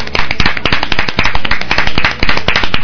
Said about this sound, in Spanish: Y quisiera que pediros un aplauso para ella, por favor.